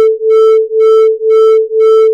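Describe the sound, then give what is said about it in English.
Two steady electronic tones sound together, producing a loud beat note that throbs in regular swells about twice per second, with no voices present. “That beat note comes when I play the two sounds together.”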